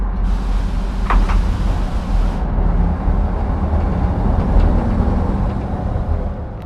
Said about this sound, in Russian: Сорокатонный поезд медленно отходит от главного вокзала Праги.